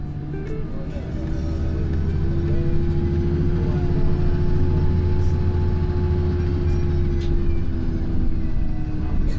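The engine of a 13-metre, 63-seat school bus drones steadily and loudly throughout, a deep rumbling hum as if heard from on board, with a few faint clicks and brief hisses over the top.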